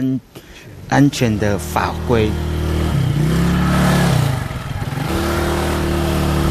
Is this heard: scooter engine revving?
yes